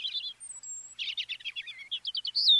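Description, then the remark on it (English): A European robin, a migratory songbird, sings clearly, a quick run of high, thin chirps and trills broken by a sustained whistle, ending on a bright rising note with no voices present. “While a bird's eye view lets a migratory songbird like this European robin keep track of important landmarks along its route, a special protein in its eyes might let it see Earth's magnetic field.”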